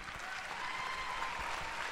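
A crowd claps steadily in a dense, continuous wash of applause, with some cheering mixed in, holding a fairly even loudness throughout with no speech over it.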